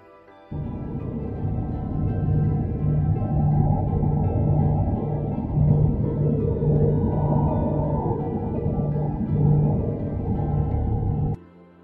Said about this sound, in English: Sounds which have since been compared to the electromagnetic radio-like sounds recorded by Cassini from inside Saturn's rings.